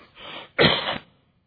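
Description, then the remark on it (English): A single cough: a soft breathy lead-in followed by a sharper, louder burst that trails off quickly. No talking, and silence after. “I didn't cough all night, so I'll get there, okay?”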